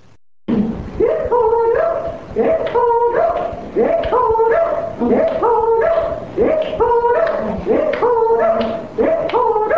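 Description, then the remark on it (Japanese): Members of the Mukawa Ainu Culture Preservation Society, heard from a tape, sing a repeated rolled-tongue trill, "rurū", in a steady, rhythmic chant, imitating the calls of cranes. The singing is loud and continuous, with short pitched phrases cycling over and over. “この時のルールーは巻き舌を使って鶴の鳴き声を表しています。”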